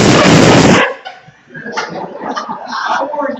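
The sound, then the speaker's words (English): A single loud, hoarse cheering yell bursts out for almost a second, one voice imitating a sports fan roaring at a Dolphins game while the team is winning, then fades into quieter vocal murmuring. “Like if you go to watch the Dolphins play, and they're winning, you go.”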